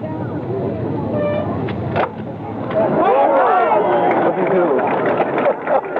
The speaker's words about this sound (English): And when Mr. Agnew prepared to tee off, our monitor microphone was there. He's now ready to hit. Let's listen to the sound of the crowd as the Vice President tees off.